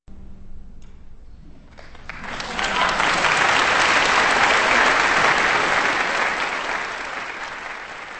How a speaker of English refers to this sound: That applause for Philip Manning, Sasha Mandy, Orlando Wells, and Claudio Jaffe in String Quartet number 10 in E flat major, the Harp String Quartet by Beethoven from 1809 and recorded last Tuesday at the Sunflower Music Festival